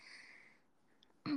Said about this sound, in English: Johnson and Johnson. Oh, it's Johnson's baby. Johnson baby. Let me sniff.